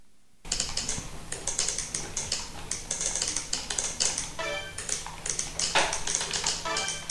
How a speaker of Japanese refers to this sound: 次のクラスは男の子3人。まず驚いたのは最初のタイピングのスピードです。ビジネスマンとして社会で活躍できるレベルの速さと称されていました。本当にすごかった。キーボードを打つ音に耳を澄ませながらお聞きください。